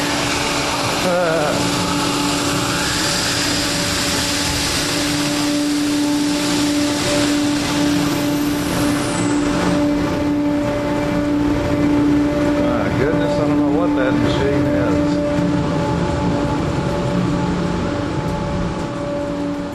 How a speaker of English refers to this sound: Like a giant vacuum cleaner.